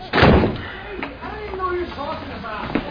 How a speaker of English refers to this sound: She's gonna knock on every door in the entire building, isn't she?